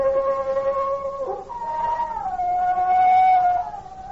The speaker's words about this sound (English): What's that? Sound like a wolf. Only there ain't no wolves out here.